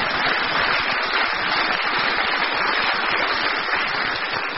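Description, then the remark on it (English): A dense, steady wash of applause from a large audience, many hands clapping together at an even loudness for several seconds with no voices on top. “He deserves a round of applause by getting it out.”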